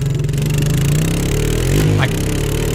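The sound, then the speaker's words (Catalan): A new moped ridden by a 12-year-old boy drones steadily, its buzzing pitch wavering and rising briefly as the rider throttles up, then settling back into a constant running hum. “Aquí el sentiu conduir la seva nova joguina, un ciclomotor que desitjava amb totes les seves forces.”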